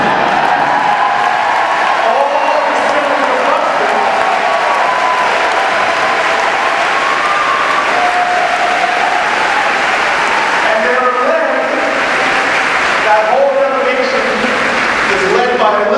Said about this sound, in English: There are a bunch of people cheering back there because those nine children moved to a town called Buxton, Iowa, which is coal mines. And the reason why those people are cheering is because I've got about 50 cousins here tonight.